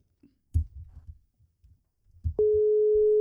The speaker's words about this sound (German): Du wolltest ja Savo anrufen. So, gucken wir mal. Es klingelt.